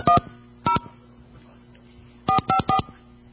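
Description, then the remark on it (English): Five crisp, loud touch-tone beeps of a California fish restaurant's phone number, GL4FISH, being dialed on a phone: one tone, a pause, another, then a quick run of three, with no talking. “I always hate dialing with words.”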